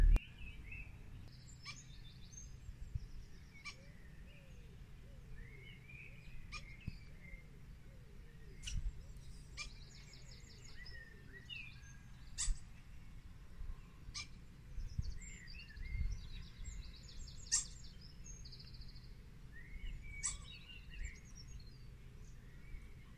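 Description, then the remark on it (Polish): Small birds on a neighbours' balcony chirp and tweet in short, scattered bursts over a steady low rumble of car traffic outdoors. No one speaks. “Mam ptaki, które mają prawdopodobnie gniazdko pod dachem, ale tak mi się...”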